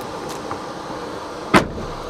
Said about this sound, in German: Also ich habe mich jetzt hinten reingesetzt, jetzt geht die Tür zu.